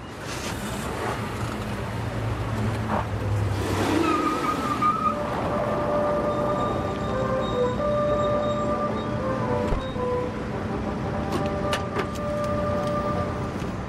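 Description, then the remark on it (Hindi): A car engine runs steadily, a constant low rumble with a faint whine on top, from a vehicle that will go to the city. No voices are heard. “ये गाड़ी री शहर तक जाएगी”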